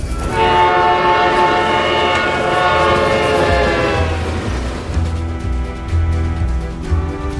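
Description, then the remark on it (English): A train rumbles past on the tracks, its loud horn blaring steadily for several seconds before fading into the heavy, continuous roar of the passing cars, with a lower horn tone sounding near the end. “These train tracks can take you many places, but that doesn't mean that they're all places where you should go.”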